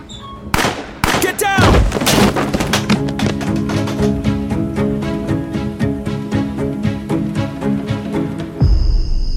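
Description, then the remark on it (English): A loud burst of gunfire: dozens of sharp gunshots crack in rapid succession for several seconds over a steady droning background, then stop abruptly. “I was on the phone with Parker, and then I heard gunshots.”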